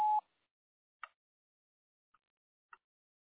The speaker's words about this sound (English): I'm not here right now, so please leave a message after the beep. At the tone, please record your message.